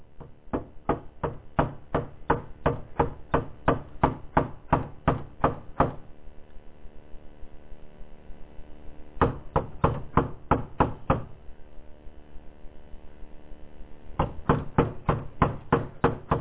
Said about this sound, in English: He comes to a door that's not open, so he knocks.